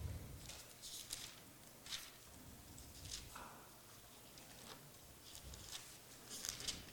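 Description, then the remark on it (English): Pages of a book being turned to John chapter 1, a series of soft, crisp paper rustles and flicks at an irregular pace, quiet, with no one speaking. “Boy, when you get used to technology, you're sort of turning the pages, you get a bit lost.”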